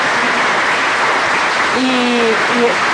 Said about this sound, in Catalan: Aplaudiments perquè efectivament acaba d'acabar oficialment el recompte. Veiem cares emocionades, persones amb emoció continguda, aplaudint, una mica també fent el tancament d'aquesta emoció i d'aquest cansament, abraçades.